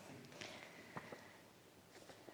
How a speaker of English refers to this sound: I heard footsteps. Did you? It was not the same steps that I usually hear.